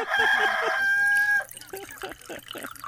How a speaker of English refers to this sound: Hit that rooster again.